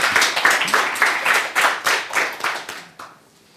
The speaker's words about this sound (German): Einen großen Applaus. Jetzt dürft ihr.